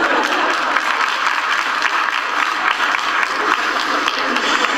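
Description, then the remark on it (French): Steady audience applause fills the whole stretch, a dense, even wash of many hands clapping at a fairly loud level with no voices standing out. “Par applaudissement, qui aurait été vivant en 1750.”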